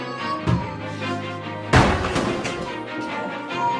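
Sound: banging on a door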